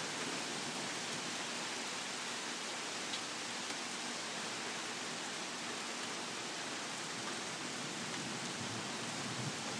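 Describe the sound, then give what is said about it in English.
Rain that has just started falls in a steady, even, dense hiss that holds at the same level from start to finish, with no voices and no distinct individual drops standing out. “Okay, I had to pause for a minute because I thought somebody was going to come up on the deck, but it has just started to rain.”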